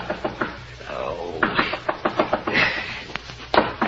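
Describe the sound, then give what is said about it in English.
Repeated sharp knocking on the door of hotel room 500 in quick, uneven bursts, fairly loud, continuing steadily for several seconds with a faint murmur in the background. “But just when you settle down to hibernate, the knocking starts.”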